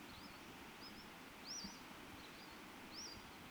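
Two male Western flycatchers sing in the background, giving thin, high, upslurred notes at irregular intervals. The notes are faint over a steady hiss, and nobody speaks.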